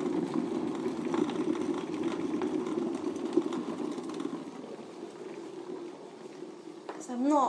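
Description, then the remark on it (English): An electric kettle heats water to boil with a steady rushing rumble that holds throughout, and a brief voice-like sound rises over it at the very end. “And actually, this kettle makes me feel like another cup of tea after doing this, because I think I've earned it.”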